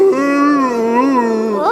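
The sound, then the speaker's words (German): Several voices together imitate a cow's moo, everyone in the group joining in, a sustained, slightly wavering low drone held for nearly two seconds, fairly loud, rising briefly at the end. “Wir brauchen ja noch Kühe. Wer kann Kühe machen? Wir können alle Kühe machen, oder?”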